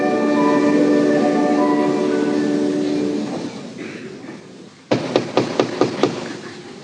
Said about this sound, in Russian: Но дверь открыли, и вот кто-то стучит в ее комнату.